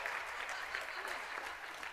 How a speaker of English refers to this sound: So, thank you very much. You've got a round of applause. You head back to your seats.